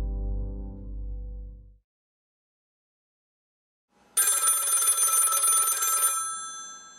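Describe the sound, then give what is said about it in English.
A single burst of a telephone bell ringing, bright and loud with a shimmering metallic tone, lasting about two seconds, before a hotline answers. It follows a low humming tone and a brief silence, with no talking. “You have reached the Come As You Are podcast hotline. Please leave your question after the beep.”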